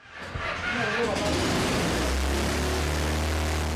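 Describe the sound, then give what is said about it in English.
The engine of a homemade helicopter, built by a professional welder, starts up in his garage with a rough, rattling burst as the machine shakes, then settles into a loud, steady low drone with a droning harmonic hum that holds to the end. “The engine roars as he turns the machine on in his garage. It shakes as if eager to lift off.”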